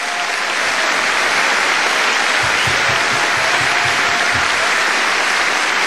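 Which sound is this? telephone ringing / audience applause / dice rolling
audience applause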